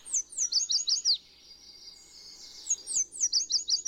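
Bright, rapid bird song: quick bursts of high chirping notes around 0.5–1 s and again near the end, with a thinner sustained trill between them. No one speaks.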